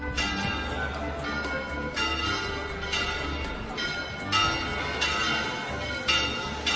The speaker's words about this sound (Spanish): Ahí estaban las campanas. Son las campanas de la mezquita catedral. Las campanas llamando a misa. Las campanas que todos los días suenan a esta hora. A las 9:30 de la mañana. A las 8:30 en Canarias.